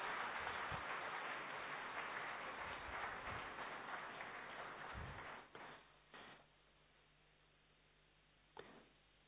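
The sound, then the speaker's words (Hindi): An audience at an evening session claps steadily for several seconds to welcome the next speaker, a senior Rajyogi, to the stage, a dense wash of applause that thins out and fades, leaving a few scattered claps and quiet room noise at the end. “जोरदार तालियों के साथ स्वागत करते रहें।”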